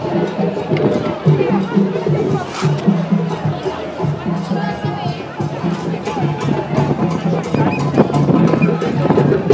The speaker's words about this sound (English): But this is a lovely sunny day now after the rain. A lovely crowd.